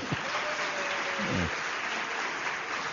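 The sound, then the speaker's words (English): Audience applause following a line about liberal education, a dense and steady wash of many hands clapping that holds at an even level throughout, with a brief faint voice underneath. “That was an applause line.”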